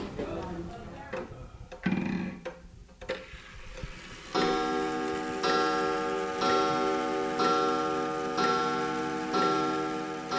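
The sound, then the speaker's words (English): Handling and bumping noises as an old clock is carried down, then a steady clock tick-tock with a ringing, metallic tone, repeating about once per second through to the end. “I'm gonna carry this old clock down right now.”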